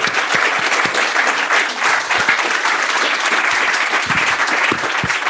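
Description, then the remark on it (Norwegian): An audience applauds the panelists at the end of a panel discussion, a dense wash of many hands clapping at a constant, fairly loud level for several seconds, with individual claps occasionally standing out. “Gi dem en stor applaus.”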